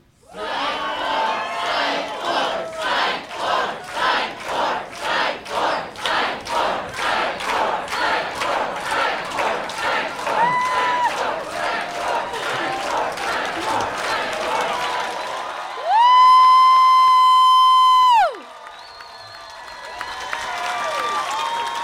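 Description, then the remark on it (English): A live audience chants "Psych four" in unison, filmed on a phone, loud rhythmic repeated syllables pulsing steadily for about fifteen seconds, followed by a long, held high-pitched note that slides downward before the crowd noise resumes. “It's like, so perhaps maybe if I were to videotape y'all saying, chanting psych four, and...”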